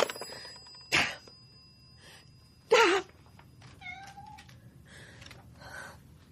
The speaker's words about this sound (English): What do you want? I've only just let you out. Bloody cat. All right, I'm coming.